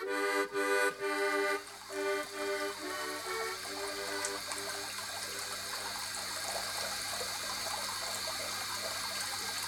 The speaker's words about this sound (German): So, jetzt kann ich auch den Wasserhahn zudrehen. Jawohl, der See ist, glaube ich, groß genug. So. Der Wasserhahn, den muss man auch mal wieder ölen, glaube ich. Der geht ganz schwer zu.